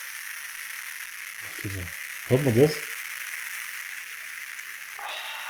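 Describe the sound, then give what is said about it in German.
A steady, faint crackling fizz of beer, like carbonation popping, runs through the whole clip, with a brief spoken question in the middle. “Das ist das lauteste Bier, was ich je getrunken habe.”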